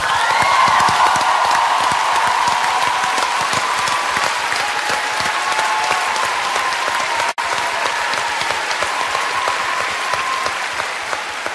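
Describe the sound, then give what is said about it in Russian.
A large audience at a KVN show applauds loudly and steadily for about twelve seconds, applause dedicated to the mothers, a dense wash of many hands clapping, with a brief break partway through and no one speaking. “Поэтому эти аплодисменты сегодня мамы для вас.”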